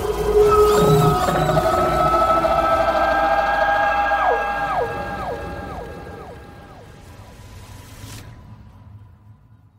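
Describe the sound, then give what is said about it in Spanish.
A huge animal, risen onto two legs and facing the moon at night, howls long wavering cries with several overlapping voices sliding up and down in pitch. The howl is loud and sustained for about eight seconds before cutting off, leaving a faint low rumble. “Entonces, el enorme animal se levantó en dos patas y mirando hacia la luna, su hermosa Hmetic aulló hacia la noche, helando la sangre de toda criatura viva.”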